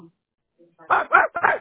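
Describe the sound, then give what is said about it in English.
Three quick, loud dog barks in a row heard over a telephone line, thin and band-limited, preceded by a brief faint murmur. “Why are you barking? It's impossible for a dog to pick up a phone and answer it.”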